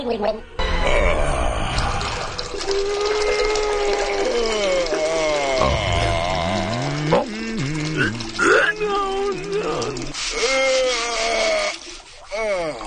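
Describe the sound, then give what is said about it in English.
A steady stream of liquid splashes into water throughout as Mighty Eagle, a cartoon bird in a film trailer clip, pees into his pool, Mighty Eagle's Lake of Wisdom, mostly buried under loud, animated, high-pitched character voices and gargling noises. “See, the Mighty Eagle, one of the birds, is peeing the whole time.”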